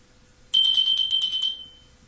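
A small bell on a table, rung to summon someone, rings out suddenly with a bright, high metallic tone, jangling in quick pulses for about a second before fading away. No one speaks.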